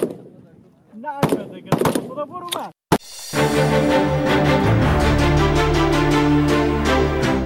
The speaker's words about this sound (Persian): با آن هم این زنان بی توجه به آینده ناروشن تلاش دارند تا گلوله هایشان به هدف بخورند و برای کشورشان تأمین امنیت کنند.